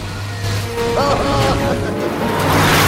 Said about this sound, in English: Rat and Mole look on with frightened expressions as Toad goes faster and faster, round and round in a circle. He slaloms across the grass and shifts the car up into a higher gear.